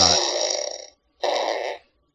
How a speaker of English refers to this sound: That's a fart. Thank you. I was slow on the sound box.